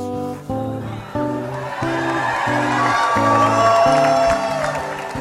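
A crowd at an impromptu station concert cheers and whoops, the roar swelling and holding loud over steady, rhythmic strummed acoustic guitar chords that repeat throughout, played by a musician standing alone in the middle of the crowd.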